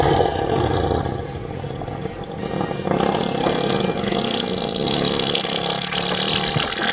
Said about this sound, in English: You know, God, that one is just so wet. It's gross. So that is an elephant fart.